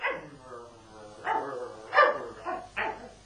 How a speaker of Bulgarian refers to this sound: Усмири това куче и говори, момче. Мирен, Зоро, млъкни.